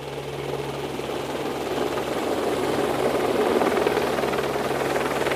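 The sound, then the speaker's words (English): A helicopter arriving for a bucket fill during a bait-drop operation: its rotor thumps steadily and loudly, its engine drone swelling slightly as the aircraft comes overhead, with no voices present. “Yeah, the helicopter is coming now.”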